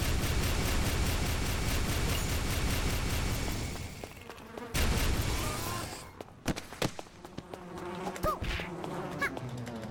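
In a video game, a dense, loud swarm of bees drones steadily for about four seconds, then a brief noisy burst gives way to sparser buzzing and scattered sharp game sound effects as the player starts killing the bees.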